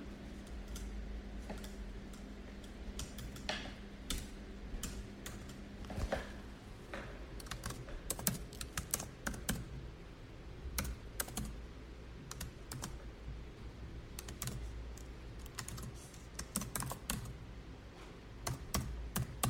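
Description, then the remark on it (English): Steady typing of code into SuperCollider on a computer keyboard: a long run of sharp, irregular key clicks at an even pace, with a low hum underneath and no voices. “Type this.”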